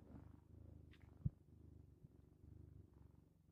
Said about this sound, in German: Also ich höre es bis hier. So, das muss jetzt reichen. Das waren ungefähr 10 Sekunden Katzenschnurren.